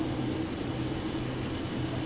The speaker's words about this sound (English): There's like a fan that came on in the background of yours, and it's like cutting everything else out.